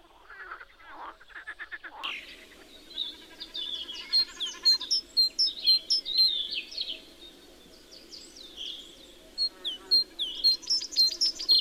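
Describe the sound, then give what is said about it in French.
Birds chirp and sing outdoors in a lively, overlapping chorus of quick bright calls: a chaffinch singing, sparrows chirping, pigeons cooing and a cuckoo calling. A low croaking murmur of frogs in a neighbouring pond runs underneath throughout. “Des moineaux pépis, des pigeons roucoulent et un coucou chante avec entrain.”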